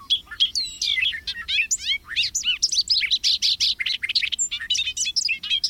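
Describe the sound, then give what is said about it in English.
A bobolink sings a long, bubbly, jangling song: a rapid tumble of high, metallic notes that bounce up and down in pitch without pause, loud and clear with no voices. “With its bubbly, jangling song, like a meadowlark plucking a banjo, the bobolink has long been admired across North America.”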